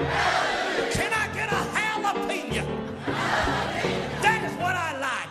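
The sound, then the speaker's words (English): A crowd at the Reagan Building downtown roars and shouts together in answer to a call for an amen, a sustained, loud wave of cheering, many voices overlapping with whoops and yells rising and falling throughout. “Can I get an amen from the crowd?”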